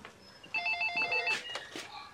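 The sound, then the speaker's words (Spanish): A telephone in a house rings in one short burst of rapid, pulsing trills, clear, followed by soft bumps and shuffling as the ring stops. “Rodolfo ingresa a la casa y camina hacia el teléfono.”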